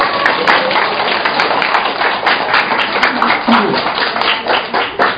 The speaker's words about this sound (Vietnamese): Rồi chúng ta trong một tràng pháo tay cảm ơn hai bé.